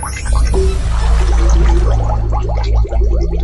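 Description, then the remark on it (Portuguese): Water pours steadily, with many small splashes and drips scattered throughout, fairly loud, over a low sustained hum that fills the background. “Se é pouco, é uma gota, é um pingo, uma lágrima.”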